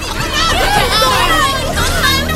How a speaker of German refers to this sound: Das Publikum erschrak und versuchte, so schnell wie möglich aus dem Zelt zu kommen.